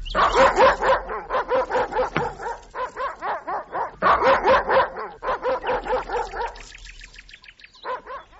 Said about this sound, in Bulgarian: какво изведнъж кипна? Не бързай, няма за къде да бързаш. Ха-ха, злобно лае. Изглежда, че усети нещо нередно